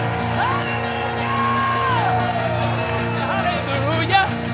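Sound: audience clapping and shouting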